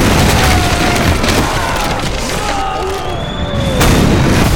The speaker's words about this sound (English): That was followed almost immediately by another explosion, this one at the far end of the street. And though it wasn't close enough to do him any harm, it did send shards of shrapnel whistling by.